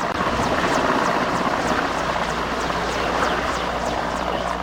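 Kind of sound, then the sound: vehicle, military helicopter flying overhead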